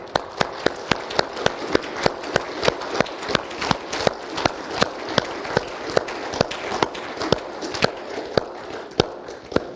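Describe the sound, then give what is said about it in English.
A church audience claps continuously, with sharp claps in a steady, quick rhythm standing out over a dense, uneven wash of scattered clapping. No one speaks. “What starts is us all clapping at our own speed and rate.”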